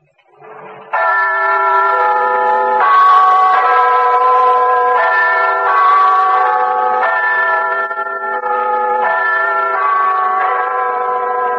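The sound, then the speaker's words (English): The great bell of Big Ben in London's Parliament Tower chimes in the new year 1971 with a slow melody, one loud, resonant note after another, each tone ringing on and blending into the next. No one speaks. “As the great bell of Big Ben in London's Parliament Tower rings in the new year, hours ahead of America, the people of Europe, those not indulging in high revelry at this hour, wonder what 1971 will bring.”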